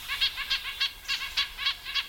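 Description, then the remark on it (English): A red-breasted nuthatch gives a quick series of nasal, tinny calls, about eight short honking notes in a steady rhythm, heard alone with no talking. “But it may be worth the calories for, say, a red-breasted nuthatch, when the alternative is to break off from the flock in search of liquid water, leaving it exposed to predators such as hawks.”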